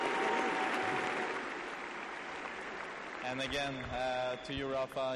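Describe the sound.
Dense, steady applause from the whole Nadal team bench clapping in unison fills the opening seconds, then voices rise over the continuing clapping toward the end.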